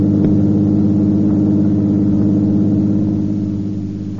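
A car engine drones loudly and steadily, a low harmonic hum as it drives along a highway, easing slightly in volume toward the end. No voices.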